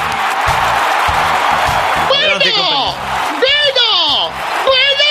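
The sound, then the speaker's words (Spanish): A crowd applauds in a dense, steady wash of clapping, then loud cheers and whoops with rising and falling pitch break out over the continuing noise. “¡Fuerte aplauso para Fernando Saverri!”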